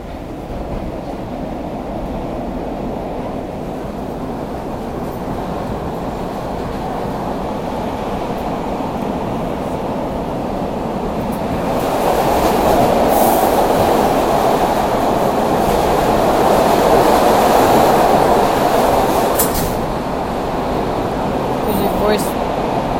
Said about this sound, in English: Here we go, guys. We're on the train. Here we go. Hope you can hear it.